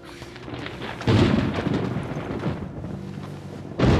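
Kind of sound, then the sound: nature, thunder rumbling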